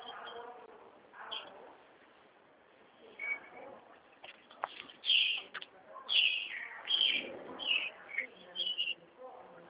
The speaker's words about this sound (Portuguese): Passarinho tá até cantando, né? Que deu uma refrescada. Aqui tem bastante pra preto aqui. Aqui é no meio do sertão, tem bastante pra preto aqui. Passarinho, canarinha tem bastante. Tá tudo feliz, acho que deu uma chuvinha, né?